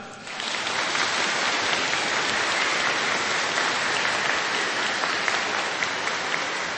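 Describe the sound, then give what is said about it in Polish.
Sustained, enthusiastic applause from a large audience greeting TV Trwam viewers and Radio Maryja listeners at a regional meeting of children's rosary circles in Mordarka, Divine Mercy parish, Tarnów diocese, Poland: many hands clapping in a dense, even roar that starts abruptly and holds steady at full loudness, with no voices standing out. “Tymi słowami witamy i pozdrawiamy bardzo gorąco i serdecznie wszystkich widzów telewizji Trwam i słuchaczy Radia Maryja, a uczynimy to gorącymi oklaskami.”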